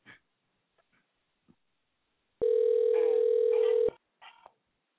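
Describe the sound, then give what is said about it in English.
A steady, loud telephone dial tone hums for about a second and a half while calling a friend, preceded by a few faint clicks and followed by a short burst of sound. “But we're gonna try to call him right now, my other homeboy, and see if he's over there.”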